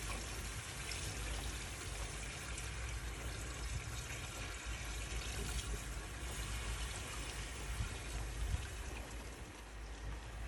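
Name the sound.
water pouring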